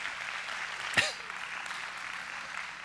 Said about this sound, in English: Now, you're clapping for the Lord because it is only by the grace of God that we managed to last this long.